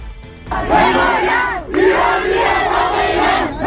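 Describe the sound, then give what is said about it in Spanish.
A large crowd of protesters outside a prison shouts slogans in unison against the rule of the ayatollahs, loud and sustained, with a brief break in the middle before the chanting surges back in rhythmic bursts. “Los gritos dicen que mientras los ayatolás estén al mando, esa tierra no es la de los iraníes.”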